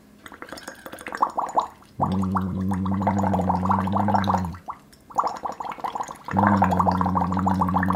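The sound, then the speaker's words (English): Bubbling through a straw into water, first alone, then joined by a steady low hum from a voice, in two long sustained stretches with a brief pause between them. “So we want to try and keep this nice sustained flow of energy into the straw and into the water, and so it's the nice gentle rolling bubbles, but also engage our vocal folds like this.”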